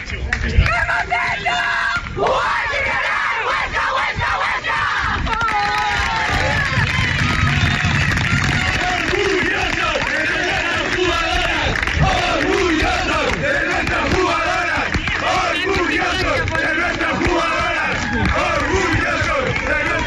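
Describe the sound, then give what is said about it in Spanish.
A large crowd roars and chants continuously at a women's football match, a dense wall of cheering and shouting voices that stays loud and steady for the whole twenty seconds. “Sí, es impresionante el ambiente, la seriedad con que el fútbol femenino está cogiendo cada vez más fuerza”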